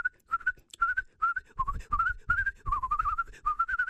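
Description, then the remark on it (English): Someone whistles a bright, chirpy bird-like tune in short repeated phrases, an imitation of birds tweeting and whistling, steady over four seconds with soft low rumbles underneath. “Well, the birds flew out, and they began to tweet and whistle.”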